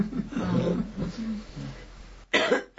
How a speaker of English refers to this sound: Excuse me. You should take care of that cough. I'm trying to.